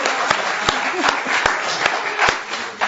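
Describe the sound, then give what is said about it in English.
An audience applauds with a steady roar of clapping after a volunteer is asked whether he can do a push-up. Sharp, evenly spaced claps punch through the dense wash of hands, keeping a brisk rhythm throughout. “Oh, give it a clap.”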